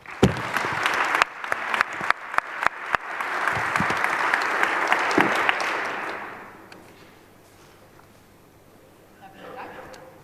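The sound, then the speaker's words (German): An audience bursts into loud, dense applause with a few sharp individual claps at the start, holding steady for several seconds before fading out around the sixth second, leaving only faint room noise. The applause welcomes a speaker who is about to give the first input. “Und bitte helft mir, sie willkommen zu heißen mit einem schönen Applaus.”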